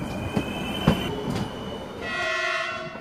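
A regional LKA passenger train rumbles along the rails with a few clacking wheel thumps, then a steady high-pitched tone rises over the running noise for the final second, fairly loud.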